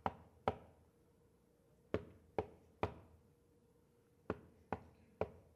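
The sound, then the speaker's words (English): Sharp knocks on a wooden door come in short bursts of two and three, each rap ringing briefly with a hollow resonance. It's fairly loud, with quiet gaps between bursts and no voices. “The more that this man stood at the door and knocked.”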